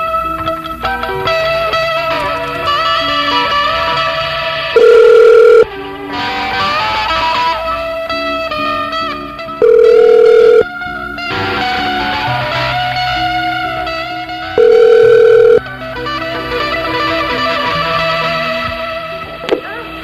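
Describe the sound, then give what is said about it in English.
A telephone ringing tone sounds three times, each a steady mid-pitched burst of about a second, spaced roughly five seconds apart over continuous background music with no talking. “Let's call him.”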